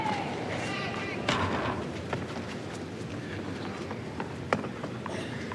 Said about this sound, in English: Thudding sound of a ball girl returning to her position at the back of the court.